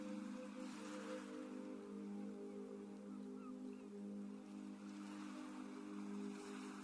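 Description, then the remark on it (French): Gentle ocean waves wash ashore in slow, soft, quiet swells, layered over a steady low humming drone with no voices. “Le bruit des vagues vous parvient et accompagne toujours votre respiration avec cette même régularité.”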